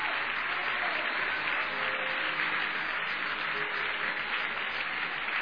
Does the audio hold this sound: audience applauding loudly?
yes